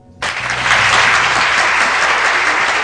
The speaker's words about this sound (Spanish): Ganó el aplausómetro.